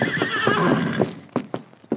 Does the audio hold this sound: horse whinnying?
yes